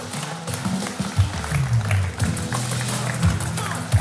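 An audience applauds steadily for the whole stretch, a dense, even patter of many hands clapping, with a low droning tone running faintly underneath.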